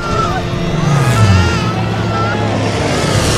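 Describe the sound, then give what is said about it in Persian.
Airplanes roar loudly overhead, a sustained heavy engine rumble whose pitch sweeps downward as they pass, with a busy, noisy commotion underneath. “هواپیما ها از بالای سرشون رد میشن.”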